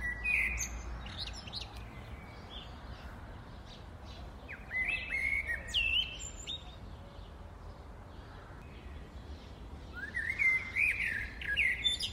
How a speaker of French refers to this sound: Un très beau matin, j'entends les oiseaux chanter. Je suis contente.